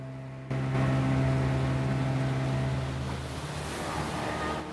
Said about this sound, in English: starts the boat's engine, and they ride out of the boathouse onto the vast expanse of clear, placid water.